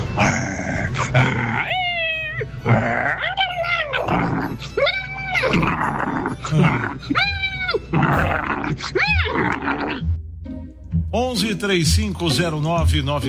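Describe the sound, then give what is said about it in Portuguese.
A person's voice imitates a dog and cat fighting, with loud growls and snarls mixed with rising, wailing yowls, ending in a quick flurry of high, choppy cat cries. “Eu consigo imitar um cachorro e um gato brigando, mano.”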